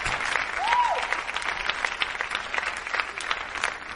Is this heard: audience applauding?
yes